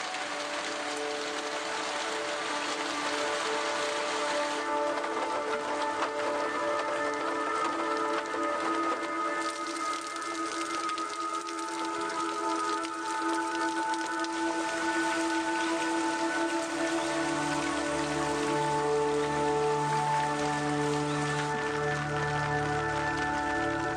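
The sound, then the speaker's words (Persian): Steady rain patters on a hard surface, a dense, continuous hiss of drops with faint tonal hum underneath, holding at an even level throughout with no voices. “اگه چیزی مشابه بارش بارون توی خونه وجود داشت، اون وقت کل اتاق یک بُعد و شکل جدید پیدا می‌کرد.”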